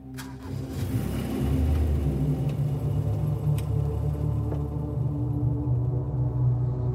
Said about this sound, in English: They got in the car, and we drove off.